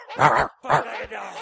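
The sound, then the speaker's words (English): A person imitates a dog with two loud, voiced barks in quick succession, the second trailing off into a softer, breathy sound. “Bark like a dog.”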